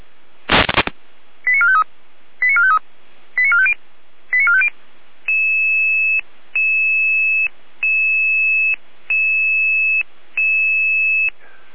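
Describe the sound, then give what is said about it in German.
A sharp click, then four quick bursts of rapid stepped radio tones, followed by five long, steady, evenly spaced electronic beeps. These are loud, clear German emergency pager alerting tones from the Jena dispatch centre, calling out Red Cross units in Saalfeld, with no voices. “Jena weiter mit Alarmierung.”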